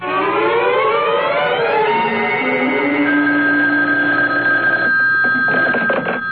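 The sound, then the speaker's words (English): A telephone rings over the line, a loud, continuous electronic tone that glides upward at first and then holds steady for several seconds, with no voices. “I wonder if I might use your phone.”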